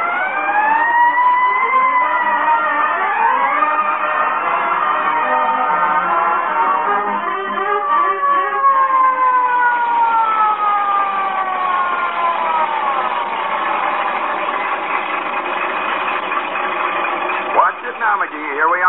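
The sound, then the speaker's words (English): A loud fire truck siren wails continuously, its pitch sweeping up and down in long overlapping glides, steady throughout, with a brief clunk near the end. “Boy, when I rolled past the Elks Club with a siren going 70 and me going 30, those guys be wild.”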